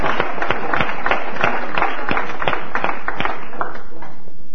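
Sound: audience clapping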